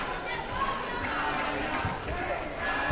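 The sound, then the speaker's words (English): A large indoor crowd of Peabody fans at a basketball game against Danvers roars steadily, voices blending into a continuous, echoing wash of chanting and cheering with a faint ball bounce now and then, sustained at even volume throughout. “Chant here by the Peabody fans here tonight.”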